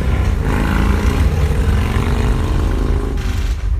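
Loud, continuous engine roar from motorcycles passing outside in Brooklyn, with a steady rumbling drone and shifting harmonic tones as the bikes rev and move by.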